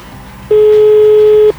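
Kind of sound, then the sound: signal or alarm, telephone ringback tone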